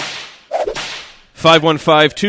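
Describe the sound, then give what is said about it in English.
A loud whip crack sound effect for the Zip Whip text line, with a hissing tail, then a quicker second lash, followed by a short burst of bright, voice-like tonal notes. “And if people want to do that, they can do that on the text line, on the Zip Whip.”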